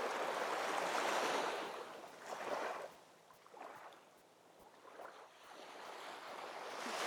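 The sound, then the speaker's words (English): Ocean waves wash onto the shore in slow, rolling surges, each swelling into a broad hiss and then receding. The surf sounds steady, with no voices. “or immersing yourself completely and going for a swim in these beautiful ocean waters, it's completely up to you.”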